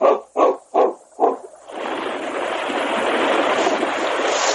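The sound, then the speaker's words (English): Four quick, sharp dog barks open, then a steady, loud rush of swift river water takes over and continues without a break to the end. “The current was swift, and big black boulders rose menacingly above the surface of the water.”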